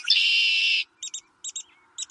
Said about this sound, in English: Red-winged blackbird. Red-winged blackbird. Red-winged blackbird is correct.